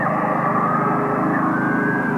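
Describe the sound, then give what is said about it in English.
A North Korean propaganda loudspeaker in the hills about a mile across the Han River estuary blares unsettling wailing and screeching noises at the South Korean village of Dangsanri: a steady, harsh wailing drone, loud and unbroken for the whole stretch, with layered buzzing tones and no voices. “If you look up in the hills, you can see a loudspeaker which blasts unsettling noises at Dangsanri at all hours.”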